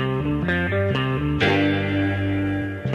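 West Coast soul music plays at a steady level, with warm, effects-laden chords changing every half second before settling into a long ringing chord. No one speaks.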